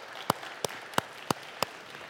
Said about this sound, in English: And yeah, you can clap for that. That's exciting.